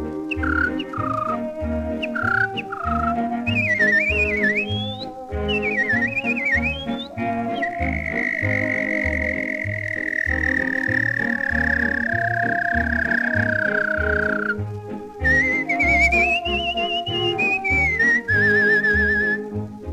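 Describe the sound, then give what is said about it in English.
A person whistles an imitation of an American thrush's song: fluttering, swooping phrases, then a long sliding held note, loud over a steady instrumental accompaniment. “Now that you've heard the mockingbird, I'd like to give you the American thrush.”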